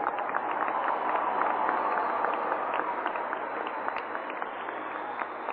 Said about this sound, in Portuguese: Uma salva de palmas para Angola, gente.